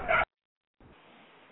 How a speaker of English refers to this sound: Oh, what the heck is that noise? Shut that dog up!